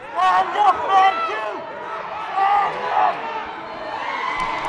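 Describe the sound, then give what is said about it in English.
A packed gym crowd, mostly hometown, cheers and shouts at a wrestling match at the Sockeye Conference Regional Tournament in New Stuyahok, a loud, dense roar of many voices with rising whoops and surges of excitement that never fully die down. “As the two wrestled at the Sockeye Conference Regional Tournament last weekend in New Stuyahok, the crowd was dynamic.”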